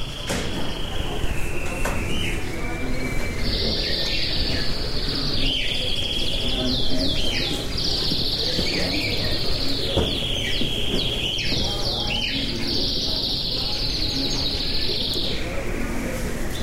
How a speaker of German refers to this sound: Wir laufen von unten von der Baixa bis nach oben, bis fast zum Castello. Hört ihr die Vögel?